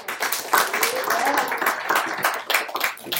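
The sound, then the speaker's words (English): Audience applause for a volunteer who has just tied their shoes: a dense, steady wash of many hands clapping for about three seconds, fairly loud throughout, with a few faint voices or cheers mixed in underneath. “How about an applause?”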